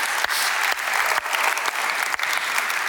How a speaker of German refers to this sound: Und es muss bewusst sein, nach dieser Schöpfung, ja, dafür können wir unserem Gott mal klatschen, das ist der Hammer.